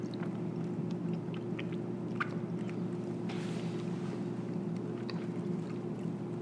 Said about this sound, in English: And a long silence there on the microphone as my partner and I chew. Yeah, that interesting thing about the crystals, you can taste them now and again in this one. It's a Gouda, it came, or a Gouda, Gouda, Gouda, came in a wheel. It's a bit crumbly.